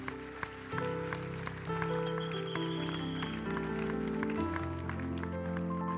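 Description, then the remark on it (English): An audience claps along in a steady rhythm over sustained organ or keyboard chords that shift from one held chord to the next, the clapping blending into the music throughout. “Clap well, or clap, clap, if you want to.”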